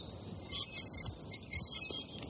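A squeaky gate swings open with thin, high-pitched creaks in two or three short bursts. It's fairly faint, and nobody speaks.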